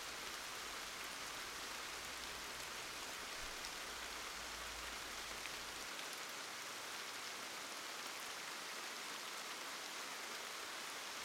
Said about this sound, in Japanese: あなたとなら平気。雨の音だってちっとも寂しくも冷たくもない。洞窟の中でこうしてあなたと二人ぼっちでのんびりしていなさいって言ってるみたい。